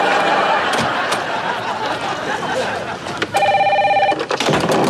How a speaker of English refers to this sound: just answer the phone.